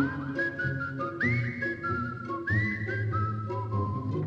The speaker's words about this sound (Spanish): Y por último, el silbido será el granjero.